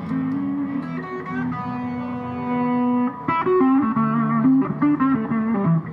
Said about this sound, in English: These all came from the distortion, which is one of the first pedals from Pigtronix. And this is an overdrive pedal.